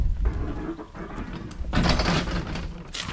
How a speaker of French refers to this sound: Alors le tracteur à vapeur, pour l'instant, il est dans un endroit un peu secret, quelque part à Grandfontaine. Mais on est devant, là, vous pouvez nous ouvrir la porte?